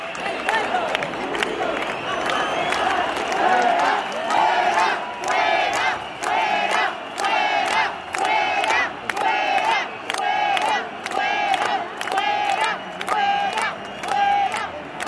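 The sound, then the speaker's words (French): A large protest crowd at a demonstration with CCOO and UGT union flags chants "dehors" over and over as two police vans approach, in loud, rhythmic shouted bursts, roughly one to two per second, keeping a steady unison beat throughout. “Deux quarts de police qui sont rapprochés de la manif et tout le monde crie dehors, dehors.”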